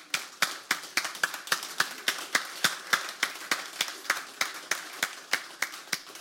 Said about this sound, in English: So women, high school age and older, I want to invite you to stand. We want to recognize you. Let's give them a round of applause, would we? Ladies, would you stand, please?